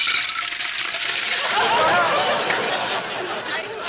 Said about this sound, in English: Let me wash up. Well, there's water in the pitcher. Just pour it into the bowl.